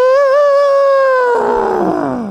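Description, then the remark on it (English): A person's voice imitates an elephant trumpeting: one loud, sustained, strained blare that wavers, then slides lower and roughens into a rasping groan before trailing off, with no talking. “So my animal noise was an elephant, and here's what that sounded like.”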